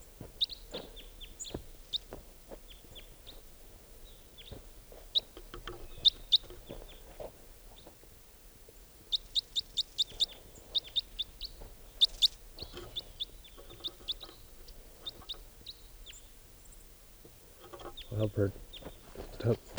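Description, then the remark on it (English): Calls of a lone wild type 4 red crossbill, a juvenile, perched in a tree near a net: short, sharp, high-pitched chips repeated in quick bursts and scattered singles, some bright and clear, others fainter, over a low rumbling background. “And I'm walking over to it to see if I can get some more vocalizations of it.”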